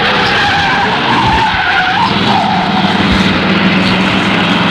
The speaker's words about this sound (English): immeasurably enhancing the sleekness of that cut-down hot rod squirreling past us en route to a ball, 1956 teenage style.